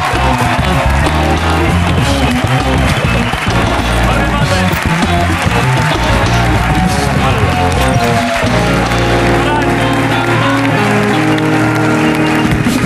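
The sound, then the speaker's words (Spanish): Studio audience applause welcoming guest Jorge Ponte, a loud steady wash of clapping that fills the whole clip for about thirteen seconds, with musical tones and some voices mixed underneath. “Está aquí, un aplauso para Jorge Ponte.”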